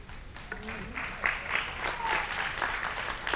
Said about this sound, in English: see now you quit clapping